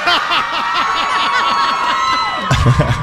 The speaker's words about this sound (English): we are so excited to be at Jenkinson's Point Pleasant Beach. Over 4,000 people and more in line to come in. I don't think I've seen this big of a crowd.